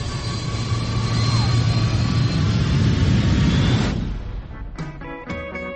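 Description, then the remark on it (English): A loud, steady roar of an airplane in flight at 30,000 feet as it rolls over, with rushing wind and engine drone. It fades after about four seconds, giving way to short, stacked tonal bursts. “Plane fell apart at 30,000 feet. We're gonna roll it.”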